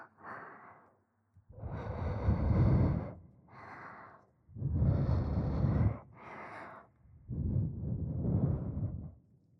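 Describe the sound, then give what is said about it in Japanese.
Slow, heavy, hot breaths blown into the listener's other ear in long airy bursts, about five of them with short pauses between, each a soft rushing exhale with a low, warm rumble. “反対側のお耳も熱い吐息を。”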